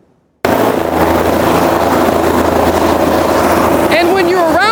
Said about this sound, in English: And here I am, 2 minutes after making fun of PR people on TV, news-splaining that helicopters are loud. Tune in tomorrow for Water is Wet. That said, they are loud. And I know that because we hear Sky 5 all the time.